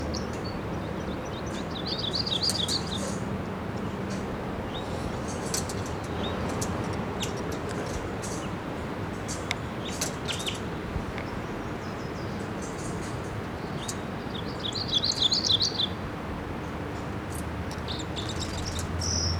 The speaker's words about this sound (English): crossbill fly in here, and I hear it chittering in the camp. Somewhere out here, here it is. It's a red male. And it's in the ponderosa pine above the nest, about 50 feet up.